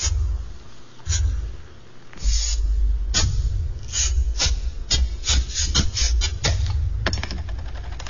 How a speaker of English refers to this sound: It takes four essential ingredients to brew Bud Light. Barley, rice, water, and hops. But this is a 30-second commercial, so here's some sound effects of bottles opening.